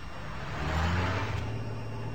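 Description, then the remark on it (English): A heavy lorry engine rumbles steadily at a rubbish tip, its low drone swelling slightly midway, with broad outdoor noise around it and no voices. “From here, lorries deliver the things society rejects to people who believe society has rejected them.”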